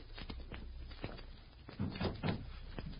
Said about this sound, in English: Lower the sash, right?